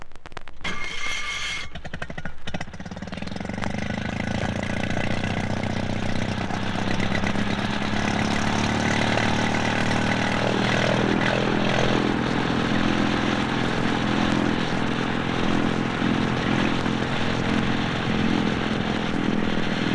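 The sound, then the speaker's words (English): A small Coventry Victor Midget four-stroke twin-cylinder opposed boat engine, made in England and fitted to DP boats from 1951 to 1958, runs steadily with a smooth, even putter, loud throughout, its low drone holding constant after a brief rougher start; no voices. “Between 1951 and 1958, this smooth little four-stroke twin-cylinder opposed engine, manufactured in England, gave these last DP boats their own unique sound, quite distinct from the earlier two-stroke models.”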